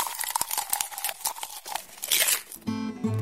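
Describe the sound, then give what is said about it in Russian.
A bookworm in a library chews on paper with rapid crunching and crinkling, irregular crackles tumbling one after another for a few seconds before a short tonal sound takes over at the end. “Хрум-хрум-хрум, чок-чок-чок, я книжный червячок.”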